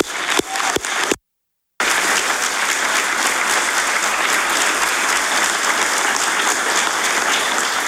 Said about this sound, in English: Have a round of applause for her.